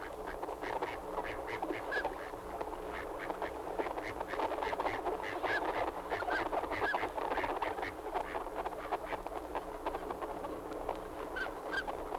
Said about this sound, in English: That was the sound of a flock of wild ducks in Florida.